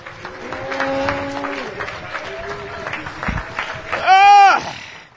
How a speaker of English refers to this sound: Again, clap your hands unto the Lord.